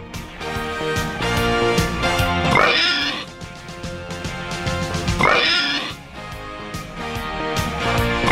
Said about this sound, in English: There's three. Hand is off the oink machine. Three oinks, huh? Three oinks.